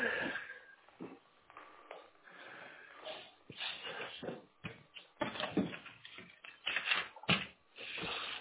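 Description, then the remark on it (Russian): Someone rummages for a pen to write down a phone number during a phone call: a steady run of rustles, taps and small clattering knocks from objects being moved about, heard thinly as if over a telephone line, with no talking. “Да, сейчас, секунду, возьму ручку, не могу.”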